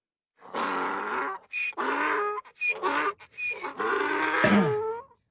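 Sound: donkey braying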